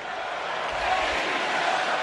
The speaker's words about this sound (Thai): เมื่อผู้ร่วมงานต่างปรบมือให้โจไบเดนยาวนานกว่า4นาทีเมื่อประธานาธิบดีสหรัฐวัย81ปีผู้นี้ปรากฏตัวบนเวทีเสียงขอบคุณ Thank you Joe ดังสนั่นขณะที่ไบเดนดูตื้นตันไปด้วยอารมณ์ครับ